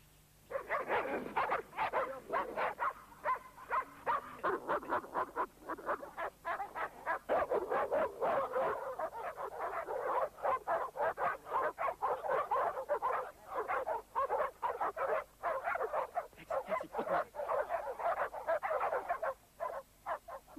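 A dog barks rapidly and continuously for about twenty seconds, the yelps mixed with high whining and whimpering, with only brief pauses between bursts.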